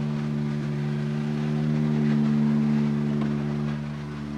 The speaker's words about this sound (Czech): A slyšíme porácení dalšího motoru. Je to Hyundai i20 R5